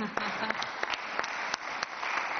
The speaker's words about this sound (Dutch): Goed. Dank u wel, burgemeester. Dat was uw eerste hamer. Dat is gedenkwaardig.